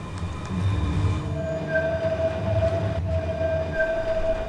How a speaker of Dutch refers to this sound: Kijk, nou, nu komt er een mooie tram voorbij. Een knerpende tram. Lijn 3.